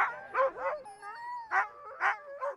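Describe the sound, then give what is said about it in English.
Several Arctic-breed sled dogs, such as Huskies and Alaskan Malamutes, bark and yip excitedly in quick, uneven bursts, with a whining, howl-like tone drawn out between the barks, moderately loud. “Races like the Canine Challenge give Arctic breeds such as Huskies and Alaskan Malamutes an opportunity to meet and do what they were born to do best”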